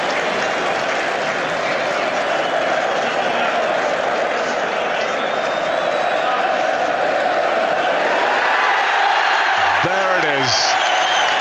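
A stadium crowd in South Africa, a sea of flags, with Nelson Mandela cheering along, roars in a dense, steady wall of noise for the whole stretch as captain Francois Pienaar is greeted; near the end a brief wavering tone, like a horn or shout, rises above it.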